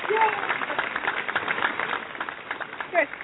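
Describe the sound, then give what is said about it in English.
An applause sound effect played after a guest's introduction: a dense patter of clapping from a crowd runs steadily throughout, with a couple of bright whoops or cheers rising above it near the start and end. “I was excited for the sound effect I was going to get after my intro. Oh, nice. Is clapping okay?”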